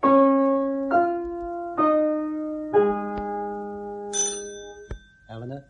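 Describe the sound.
Four resonant bell notes of the Westminster hour chimes ring out in a slow chiming phrase, each overlapping the last, followed by a higher bright tone and a brief voice at the very end.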